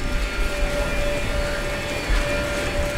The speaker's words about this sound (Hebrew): הסאונד הכי בולט בכניסה למחלקה הוא מה שנשמע כמו מזגן חזק במיוחד. זו מכונת הוואקום, שיוצרת לחץ אוויר שלילי בתוך המחלקה.